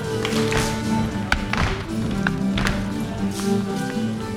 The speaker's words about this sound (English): The room is filled with stomping and clapping as dancers swing their partners around.